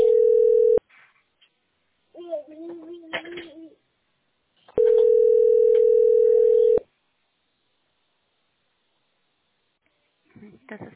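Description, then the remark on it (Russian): A loud, steady telephone line tone while on hold on a call to the company Teploenergosbyt SPB. It sounds twice, a brief burst and then a two-second hold, with a short stretch of speech between them and a faint voice at the end. “Или оставайтесь на линии. Вам ответит специалист расчетного центра.”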